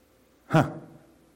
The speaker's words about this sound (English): I heard the gasp.